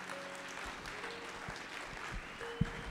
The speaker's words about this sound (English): Let's give Jesus a clap offering in this place.